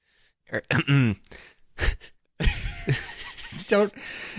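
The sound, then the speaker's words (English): A few short, raspy throat-clearing bursts mixed with breathy, voiced vocal noises, moderately loud and irregular, with brief silent gaps between them. “I heard the way you clear your throat there.”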